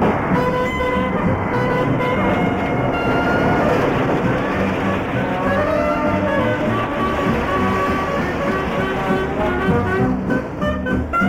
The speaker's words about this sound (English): Oh, this is an SGME spreader machine. Concrete is tipped from side-tipping lorries into it, so it travels on rails and can move along the rails, and the hopper can move across the framework of the machine.